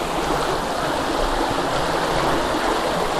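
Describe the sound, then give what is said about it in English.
Steady rushing of a stream, water flowing continuously over rocks with a broad, even hiss and low gurgle, fairly loud, with no voices. “Right, I need to go back down there now. Not fall in the water this time.”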